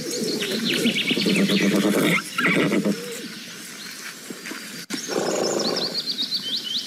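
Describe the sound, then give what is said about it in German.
A newborn foal, about an hour old and just standing on its own legs, whinnies in loud, quavering bursts, first for about two seconds, then again after a short pause, with birds chirping and cooing in the background. “Nach einer Stunde die erste große Kraftanstrengung des Neugeborenen. Das Fohlen steht auf seinen eigenen Beinen.”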